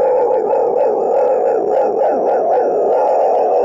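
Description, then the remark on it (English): A voice imitates a pack of wild dogs, with loud, continuous overlapping howls and yips rising and falling in a dense, steady chorus and no ordinary talking. “And a bunch of wild dogs, right?”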